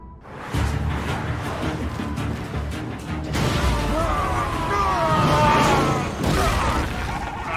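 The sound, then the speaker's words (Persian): Rapid bursts of gunfire crack out in quick succession, loud, layered over a dense, rumbling wash of noise with muffled voices mixed in. “همه شلیک شلیک شلیک.”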